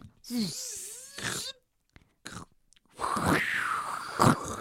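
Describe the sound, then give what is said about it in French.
Strong wind howls in loud, gusty surges, with a wavering moan that rises and falls in pitch, broken by brief near-silent lulls before a long roaring gust returns, in the morning on a climb up a mountain. “Le vent est vraiment fort, j'ai l'impression que je m'envole.”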